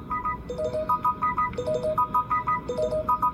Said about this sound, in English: She's getting a phone call.